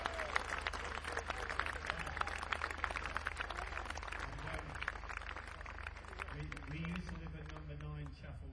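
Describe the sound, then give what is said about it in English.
An audience applauds the residents of the village of Crawfordy in a steady, dense patter that lasts the whole stretch, with a few voices rising over the applause near the end as it starts to thin. “Big round of applause for Crawfordy residents.”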